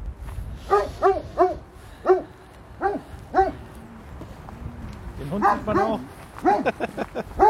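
A dog gives a run of sharp, high yips and short barks, coming in quick bursts with brief pauses, then a denser flurry of excited yapping near the end.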